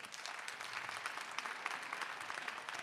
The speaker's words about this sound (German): Jetzt erstmal euer Applaus für Romans in Mainz. Seid ihr unten durch. Euer Applaus.